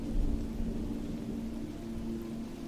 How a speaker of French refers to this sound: Alors qu'autour de vous, les animaux rejoignent leurs abris pour se protéger de la tempête qui se lève,